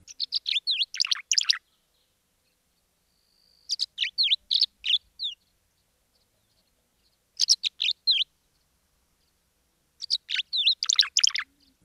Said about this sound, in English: Tree swallows, another insectivore, also use these nest boxes. They are amazing acrobatic flyers with bright iridescent coloration on their backs and a white belly. They sound like this.